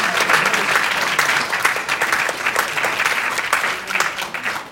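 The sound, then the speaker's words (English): A crowd applauds steadily for a young trombone student who passed his grade one exam with distinction, dense overlapping claps sustained at a fairly loud level throughout, with no one speaking over it. “Special round of applause.”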